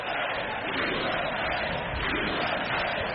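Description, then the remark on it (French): A large crowd in the US Congress applauds and cheers continuously during a speech by Donald Trump, as he salutes the election of many women to Congress in 2018. A dense, steady roar of clapping and voices at full volume throughout, with no single speaker audible. “C'était un des moments les plus applaudis de son discours.”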